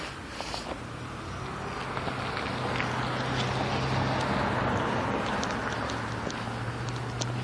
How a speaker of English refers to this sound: Anyway, car coming.